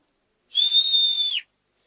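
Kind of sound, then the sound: sound effect, loud whistling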